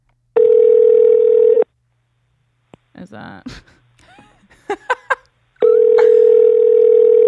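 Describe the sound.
A telephone rings on an outgoing call: two long, steady electronic ring tones separated by a pause, loud, with brief speech and breathy sounds in the gap between them.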